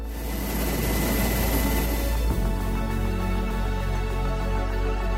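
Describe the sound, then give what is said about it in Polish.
A helicopter rotor spins up with a loud engine roar and a rapid low thudding chop, holding steady throughout with a brief knock partway through; no one speaks. “Śmigło helikoptera zaczyna wirować.”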